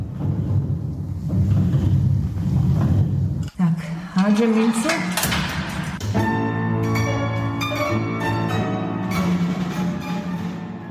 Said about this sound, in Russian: Наш оркестрион после восстановления выглядит именно так, как это было раньше. Итак, я бросаю монету.